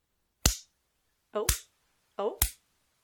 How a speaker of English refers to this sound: Oh, no, there's slaps. That hurt?